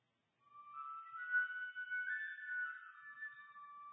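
A penny whistle plays a bright, sustained melody of a few held notes that shift pitch smoothly, clear with no voices, lasting several seconds.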